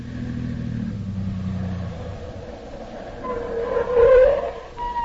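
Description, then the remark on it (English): Dr. Christian's car rumbles in with a low engine drone that swells as it approaches, ending in a brief brake squeal as it pulls up and stops. “That must be Dr. Christian's car now.”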